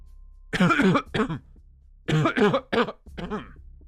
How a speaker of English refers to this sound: My dad started to cough uncontrollably. He stood up and grabbed his throat. Shortly after, my mom kept clearing her throat until she couldn't fight the coughs anymore.